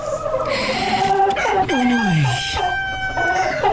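A rooster crows loudly and close by, a long drawn-out cock-a-doodle-doo with rising and falling tones, with no voices around it.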